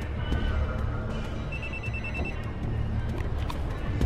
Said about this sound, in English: His cell phone rings in his jacket pocket.